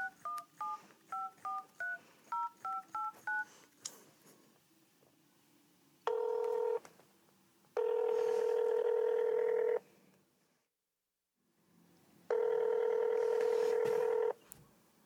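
A rapid series of about eleven short, evenly spaced keypad tones as a number is dialed on a phone to call a man, followed by several long, loud ringback tones separated by pauses, with no one speaking.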